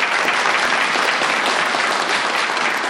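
A steady round of applause from many hands, dense and even throughout, with no voices standing out above the clapping.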